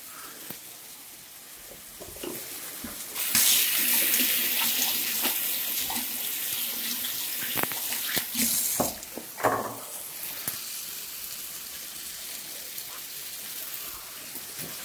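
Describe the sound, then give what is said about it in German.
A small splash of soy sauce onto a raw mushroom carpaccio with lemon, a sudden loud hissing, watery rush that holds for several seconds with scattered small pops and clicks, then fades to a quieter background. No one speaks. “Mach mal deine Sojasauce auf, die du hier hast. Ja, auf jeden Fall. Und mach da mal einen kleinen Spritzer dran.”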